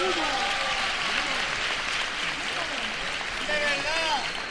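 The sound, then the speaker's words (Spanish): Sustained audience applause at a competition final, a dense steady wash of clapping at even loudness throughout, with faint voices and cheers woven into the noise. “Estamos en la final, fuerte aplauso, por favor.”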